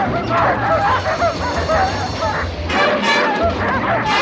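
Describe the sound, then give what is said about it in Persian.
A frantic chorus of twelve sled dogs in a crate barking and yipping as they pull the coyote into the crate, dense and continuous, several animals at once with overlapping high yelps and whines, loud throughout. “یه استخون رو جلوی دریچه میگیره ولی سگا خودش رو توی جعبه میکشه.”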